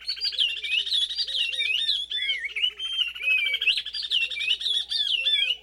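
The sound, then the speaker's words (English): A pair of oriole warblers in Senegal sings a duet, the female giving quick repeated staccato notes in a rising series while the male whistles varied phrases over it, clear with no voices. “In this duet of oriole warblers from Senegal, the female keeps time with a rising series of staccato notes as the male whistles along.”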